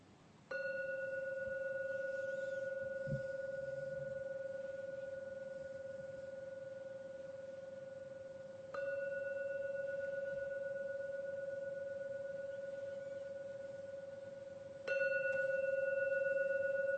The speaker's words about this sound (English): I will now ring the gong 3 times. Please listen to every sound of the gong. And when the last resonance vanishes, then come out from your meditation.